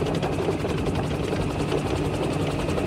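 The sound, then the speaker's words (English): A 56-foot-long acoustic horn with a WAS 3000 acoustic modulator, capable of up to 165 decibels, imitates a helicopter: a loud, steady sound with rapid rhythmic rotor chopping over a dense engine roar, sustained throughout without pause and with no voices. “Which could also realistically imitate the sound of approaching tanks and helicopters for intimidation.”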